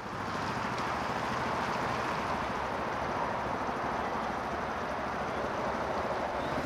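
A tiny, narrow, low boat named Nessie, just launched down a slipway, is brought around on a canal, its steady, busy rumble and water noise filling the scene continuously, with no one speaking.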